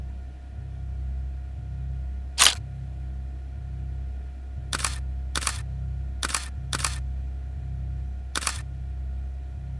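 camera shutter clicking

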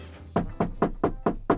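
knuckles knocking on wood

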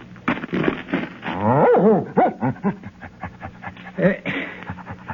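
dog barking and whimpering

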